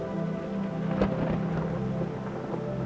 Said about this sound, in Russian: Затем последний сплошной ливень исхлестал мертвую грязь, а уходящие раскаты грома оставили все успокоенным, и оставалось лишь грязное расползание слабеющих потоков, лишь шелест и суматоха зелени деревьев.